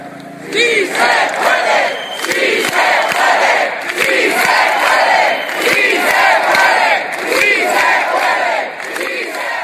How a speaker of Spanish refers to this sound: se situó en la madrileña Puerta del Sol, el mismo escenario que hace 2 años vio nacer a los indignados, donde decenas de miles de personas protestaron con un grito mudo, roto al cabo de unos 2 minutos con un clamor «Sí se puede».